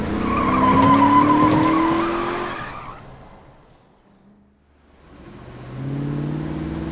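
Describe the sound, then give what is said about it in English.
A Cadillac peels away with a loud, sustained tire squeal and a rising engine roar, fading away before the steady hum of an engine returns. “On a deserted highway, save for abandoned cars and a littering of bodies here and there, the caddy drove down a section of highway as Whip bopped his head at no music whatsoever.”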